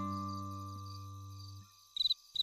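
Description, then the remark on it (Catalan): Crickets chirp in quick, shrill pulsing bursts, two short trills, following a steady low droning tone that fades out just before them. “Fan cri-cri. Sí, són els grills que els agrada cantar de dia i de nit.”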